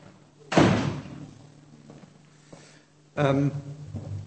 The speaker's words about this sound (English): Well, let me just shut this door.